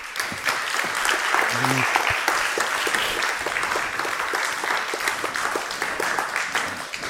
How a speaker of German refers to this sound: Danke, einen warmen Applaus bitte.